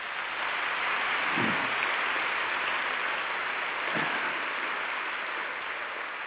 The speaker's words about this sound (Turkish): Önce ayaklarınıza sağlık, sonra alkışlayan ellerinize sağlık. Hoş geldiniz efendim.